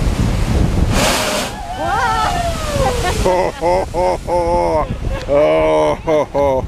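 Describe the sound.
Ocean surf rumbles with a loud wave crash early on, then a steady roar of breaking water and wind while a person talks over it in the second half.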